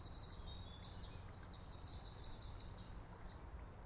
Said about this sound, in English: I shall now invite you to listen to the birds and the distant traffic. Really is a beautiful day, and there's some guys fishing down there.